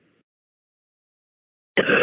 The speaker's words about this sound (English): Yeah, so when you hear somebody coughing, like, oh God, uh-oh, I don't know.